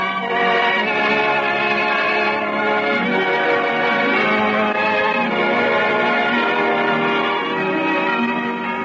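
Church bells ring out in a dense, continuous peal, many tones overlapping and sustaining at a steady, fairly loud level throughout, with no voices.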